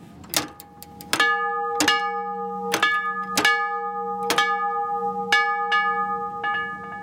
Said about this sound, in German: Und obendrauf ist dann die Glocke, die angeschlagen wird. Ja. Die ist aus Metall und... Gusseiserne. Hier ist der Klöppel. Hier haben wir den Klöppel. Ein doppelter Klöppel, ein Doppelschlagklöppel.